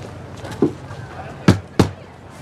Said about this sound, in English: You in there? Yeah, just knock.